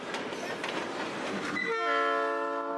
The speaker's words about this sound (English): They'll spend days clinging to cargo trains as they grind through southern Mexico up toward the U.S. border.